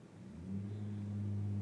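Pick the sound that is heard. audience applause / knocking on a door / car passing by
car passing by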